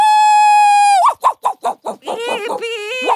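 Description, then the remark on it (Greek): A steady, drawn-out tone gives way to a quick run of about six sharp, fairly loud barks from a hound at midday, then a wavering, whine-like sustained sound. “Γιατί γαυγίζεις μεσημεριάτικα? Θα σηκώσεις όλη την γειτονιά στο πόδι.”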